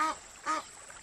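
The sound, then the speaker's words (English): A pair of Egyptian geese with newly hatched chicks call out with two harsh, nasal honks as they try to fend off a baboon, a brief pause between them, clear over a faint watery hiss. “Newly hatched chicks behind a pair of Egyptian geese. The geese try to fend the baboon off.”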